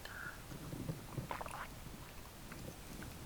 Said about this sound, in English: One sip of cranberry juice, grape cranberry juice here.